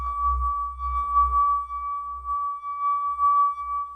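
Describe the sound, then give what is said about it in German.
A glass rim being rubbed with a half-dry finger gives a steady, pure ringing tone that holds unbroken for several seconds, with a faint low rumble of handling underneath. “Das klingende Glas, ihr kennt es alle.”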